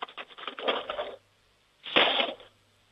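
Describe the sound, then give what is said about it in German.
A handful of metal spoons is dropped into a cutlery drawer in two bursts: a long jangling rattle of many pieces, a pause, then a shorter, brighter crash of clinking metal. “Jetzt bin ich mal gespannt, wie das klingt, wenn du die Bestecklade aufmachst und einen Haufen Löffeln rausnimmst und sie in die Bestecklade reinfallen lässt.”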